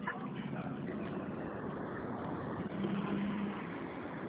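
car driving in traffic

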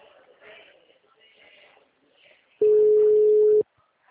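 telephone call tone

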